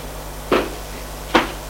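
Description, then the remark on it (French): Two distinct knocks on a bedroom door on the second floor, spaced almost a second apart, each a short solid rap that fades quickly, with no voices around them. “il frappe à la porte de la chambre de Gilbert”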